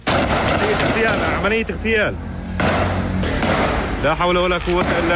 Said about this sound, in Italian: Spari e scontri in Cisgiordania, il settimo fronte di Israele, finora meno incandescente degli altri, ma qualcosa sembra cambiato.